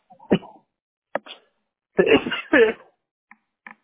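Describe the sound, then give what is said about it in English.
A sharp sneeze bursts out, followed by a few short throaty, voiced noises and small clicks, with no words spoken. “Bless you.”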